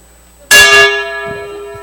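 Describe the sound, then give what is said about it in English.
A single strike on a handmade Burmese gong from the Chin state, with a sharp metallic attack, followed by a sustained, shimmering ring that slowly fades; faint low rumbles underneath. “Burmese gong from the Chin state.”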